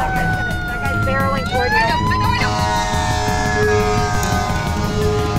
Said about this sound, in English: The sky is filled with plumes of gray smoke, and the only other cars out on the roads are emergency vehicles going full tilt, sirens blaring, coming at us through a fog.